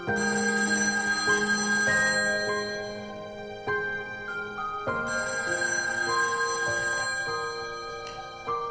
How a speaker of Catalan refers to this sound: Tots es queden parats. No ho esperaven. El so estrident del telèfon els ha tret dels seus pensaments.